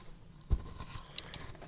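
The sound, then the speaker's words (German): Light, scattered pattering of small soft objects dropping down like gummy bears raining, with one heavier thump early on and a few quiet taps after, faint and without voices. “Hey, guck mal, es regnet ja Gummibärchen.”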